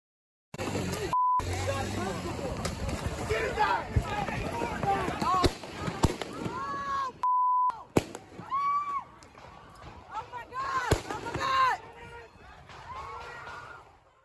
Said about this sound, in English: That was the moment then 17-year-old Kyle Rittenhouse shot three people during a chaotic Wisconsin protest against police brutality in August of 2020. Rittenhouse, now 18, goes on trial Monday for the Kenosha shootings, which left two dead.